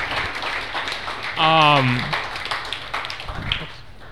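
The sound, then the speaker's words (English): Steady audience applause, another round for two performers, fills the whole stretch, a dense crackle of many hands clapping, with one voice letting out a brief sliding cheer partway through. “Can we get another round of applause for both of them?”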